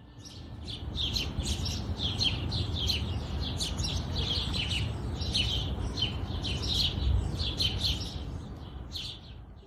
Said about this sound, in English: From the ripple sounds of river, to the chirping of morning birds,